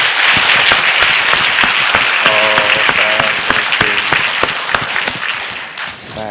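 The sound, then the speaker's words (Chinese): A crowd applauds loudly and steadily to welcome the pastors, co-workers, brothers and sisters attending a church workshop, dense overlapping claps filling the whole stretch, with a brief voice rising over the noise midway before the clapping eases slightly at the end. “我们一起鼓掌欢迎每一位。”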